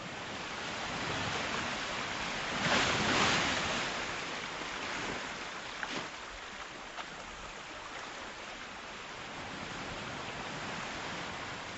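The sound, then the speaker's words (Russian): Soft, steady wash of small waves breaking and lapping on a sea shore, a broad hiss of surf with gentle swells rising and fading, heard alone. “Но прежде чем лечь, я открыла окно, выходившее на берег моря, и услышала тихий плеск волн.”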